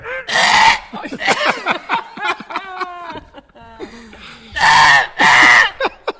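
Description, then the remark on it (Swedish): A koala bellows with harsh, rasping snorts at the start and again near the end, separated by a run of wavering, pig-like grunting tones, fairly loud and without any talk. “Koalan kan låta som en riktigt arg gris.”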